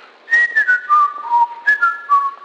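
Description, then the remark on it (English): A person whistles a short tune alone, clear piercing notes stepping downward in two brief phrases, fairly loud with no talking. “They whistle.”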